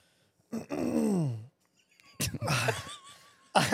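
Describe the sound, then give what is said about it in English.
Loud throat clearing: a drawn-out, falling, groan-like vocal rasp, a brief pause, then a series of harsh, gravelly bursts ending in one sharp final rasp. “I was clearing my throat.”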